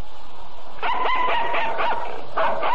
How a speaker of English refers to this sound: Yes, I said hounds. Go on and bark all you want to. See if I care.